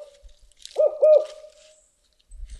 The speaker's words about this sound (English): We're on the bank of the Mad River, and Diller plays a recording of a spotted owl hooting. He hears a distant response from a real bird.